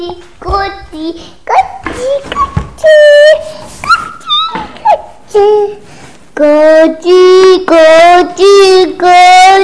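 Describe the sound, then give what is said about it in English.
A dog whimpers and yips, a run of short, high-pitched cries with sliding pitch, ending in a string of longer, louder whining calls in quick succession. “Dog, are you here?”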